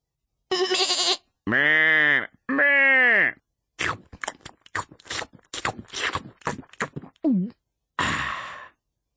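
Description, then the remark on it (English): A breathy exhale, then a voice imitating a hungry sheep with two drawn-out, wavering bleats, followed by a run of quick, crunchy munching and clicking noises imitating nibbling grass, and a final breathy puff. “When the cat has gone to sleep, I nibble grass like a hungry sheep.”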